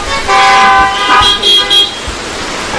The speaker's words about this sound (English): If so, respond by saying, I do, and honk your horns.